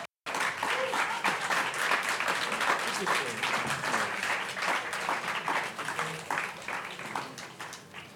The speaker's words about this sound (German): Ja, bitte einen warmen Applaus.